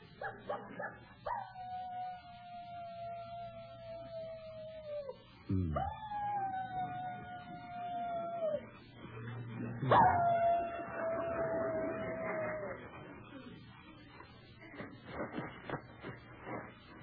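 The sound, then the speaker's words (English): A human voice imitates a coyote, letting out three long, wavering howls that slide downward, followed by a quick burst of short yips, clear over faint background noise. “How'd you like my imitation of a coyote?”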